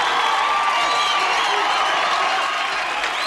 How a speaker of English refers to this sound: The crowd anticipating a great fight now as Apollo is in the ring. He's playing to the crowd.